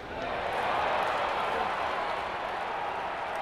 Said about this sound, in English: Barely 2 minutes into the game, a home run rockets into the park's signature swimming pool in right center field. The cheers you hear aren't coming from the home fans. They're coming from the fans of the visiting Blue Jays